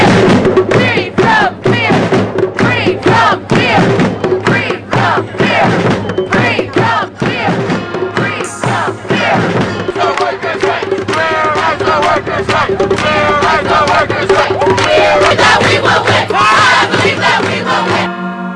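A loud protest crowd in North Carolina, protesting against House Bill 2, chants and shouts continuously, with rhythmic bursts of many voices yelling together, dense and unbroken throughout, rising into a steadier roar of overlapping cries toward the end.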